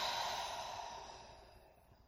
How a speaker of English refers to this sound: One more time, deep, deep breath. In through the nose. And audible exhale.